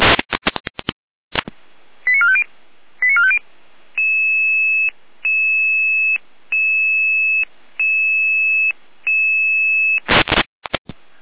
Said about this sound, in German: Einsatz für die 83-3 und den Notarzt bewusstlos. Ihr Alarmruf.